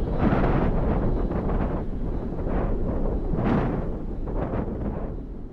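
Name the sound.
wind blowing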